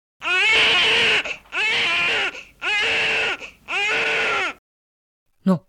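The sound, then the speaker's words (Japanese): A newborn baby, bitten on its hands and cheeks by rats, cries in four long, loud wails, each separated by a brief gasping pause, followed by a moment of silence and a short sharp sound at the end. “かわいそうに生まれたばかりの赤ん坊もネズミに手やほっぺを噛まれていたのでありました。”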